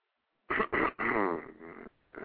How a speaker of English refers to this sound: Don't be coughing like I am